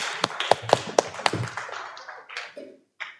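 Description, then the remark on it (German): A short burst of scattered hand clapping from a few people in an audience, applauding a helper, sharp, thinning out and fading after a couple of seconds. “Ein Applaus für meinen starken Helfer.”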